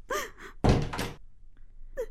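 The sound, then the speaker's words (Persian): A gate swings open: a short creaky squeal, then a loud rattling thud lasting about half a second, followed by faint scattered sounds. “صدای در است، دروازه باز شد.”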